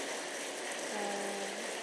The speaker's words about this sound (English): The first spring rain this year.